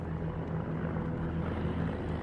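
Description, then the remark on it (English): A steady, droning engine runs continuously with a low, even hum and faint pulsing rumble, like a motor or aircraft heard outdoors in cold wind in the Kvarken archipelago, with no voices present. “Wait, wasn't that the sound of an engine?”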